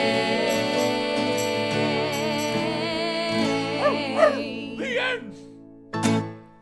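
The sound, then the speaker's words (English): A dog yips and whimpers in a few short, rising cries, then gives one sharp bark near the end, all over a steady musical tone bed. “I get to hang out with my dog all day.”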